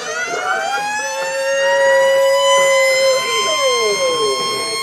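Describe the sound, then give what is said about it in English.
A handheld siren wails loudly and steadily at a stadium entrance as a football team comes onto the field, its pitch gliding up and then sweeping down again, with a faint murmur of background noise beneath it. “And the funny thing is, the guy with the horn, with the siren, he's wearing headphones.”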